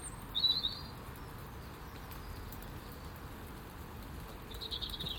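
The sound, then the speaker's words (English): Steady rain falls straight down with no wind in an even, continuous hiss, heard from under the shelter of a shed, with a brief bird chirp near the start and another faint call toward the end. “But at least it's not windy, so it's just the lovely straight down rain.”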